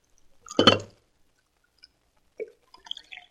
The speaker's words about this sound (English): He looks clumsy, but he poured the coffee as well as a man could.